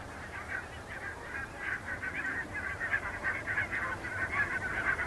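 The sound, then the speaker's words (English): A large flock of geese honks continuously in fields beside the edge of a salt marsh along the River Nith. The many overlapping calls between pairs and families form a steady, chattering din, with no voices. “I think some of these birds have headed along the edge of the salt marsh, following the edge of the River Nith, and come into the fields just behind us there.”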